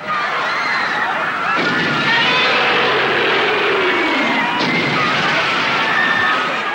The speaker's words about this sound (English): There's been all kinds of stomping and screaming over the years. Here's Godzilla from 1985 terrorizing a crowd.